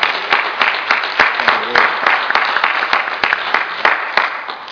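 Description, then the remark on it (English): An audience applauds Dr. Tosco steadily after her historical overview, many hands clapping in a dense, crackling patter that holds an even loudness throughout, with a few sharper individual claps standing out. “Can we give Dr. Tosco a big round of applause?”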